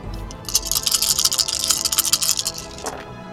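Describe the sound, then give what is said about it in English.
A big handful of dice clatters and rattles across a surface, a dense burst of bright clicking that lasts about two seconds before tapering off, with no talking over it. “Way too many dice.”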